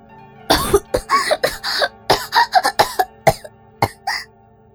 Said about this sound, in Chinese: 忍受着满嘴的腥臭，在韦安拔出鸡巴之后，他疯狂地咳嗽。